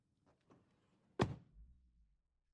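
A car door slams shut with one solid, heavy thunk as a passenger being given a ride gets in, preceded by faint handling clicks and followed by a low, fading rumble. It is loud, with no one speaking.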